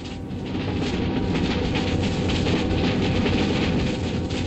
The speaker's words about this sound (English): This is a special vacuum cleaner. And in autumn time, when the leaves have fallen from our trees, this machine staggers around the streets and sucks them all up. In other words, it's a sucker-upper.